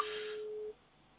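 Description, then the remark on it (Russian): A single steady telephone tone sounds for under a second, an outgoing call signal from a test call placed to check that a line receives incoming calls, then cuts off and leaves faint background hiss. No one speaks. “Я вот сейчас звоню.”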